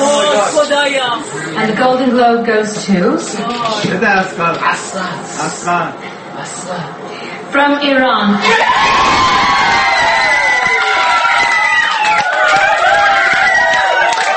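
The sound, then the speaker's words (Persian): A crowd of Iranians cheering in celebration of Asghar Farhadi winning the Golden Globe for A Separation, first with scattered excited voices, then a sudden loud burst of whoops, shouts and high-pitched yelling that stays strong to the end. “و این یکی از انبوه نمونه‌های شادی ایرانیان در سراسر دنیا در واکنش به دریافت جایزه اصغر فرهادی است که به لطف وجود رسانه‌های مختلف لحظه به لحظه اتفاقات مراسم گلدن گلوب را در خانه‌هایشان تعقیب می‌کردند.”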